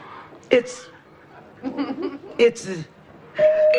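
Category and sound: household object, doorbell ringing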